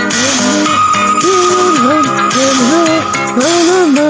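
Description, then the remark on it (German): A sonar-like synth ping rings out as a sustained high tone over loud, dense synth-pop backing with gliding, bending melodic lines; no one speaks. “dieser Pink-Sound hört sich natürlich auch so ein bisschen an wie so ein U-Boot Ding.”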